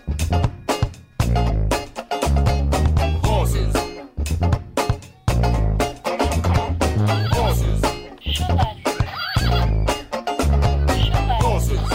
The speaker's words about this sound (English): This is a Funhouse Mirror version of Dixieland. It has an infectious sousaphone bass line, funky banjo, and a propulsive groove that kind of reminds me of ….